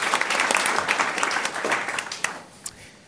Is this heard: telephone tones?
no